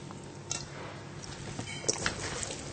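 Water drawn out of salted zucchini is poured off in a quiet, uneven trickle, with a few soft wet squishes and light clinks, and no one talking.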